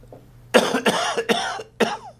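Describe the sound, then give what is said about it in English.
A person mimics a cough with four harsh, breathy bursts in quick succession, fairly loud, with no talking around them, imitating a store checker at a Walmart register coughing right over the top of her elbow instead of into it. “But she didn't cough into her elbow. She coughed right over the directly top of it.”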